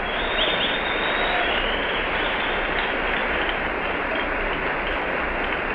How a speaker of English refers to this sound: There are vast numbers of children who are apparently having a perfectly wonderful time watching this scene. Upstairs, I'll let you hear some more of this applause.